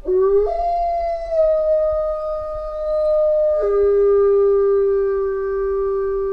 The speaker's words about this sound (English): And then they wanted to see what the other wolves would do. And the other wolves would howl, and sounded a little bit like this.